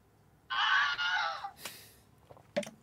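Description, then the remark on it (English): A single Wilhelm scream, used as a quiz buzzer, rings out loud, a strained, wavering cry lasting about a second, followed by a faint breathy rustle and a brief sharp click. “The Wilhelm scream.”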